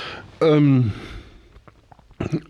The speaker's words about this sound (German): Entschuldigung, ich muss aufstoßen. Gesundheit.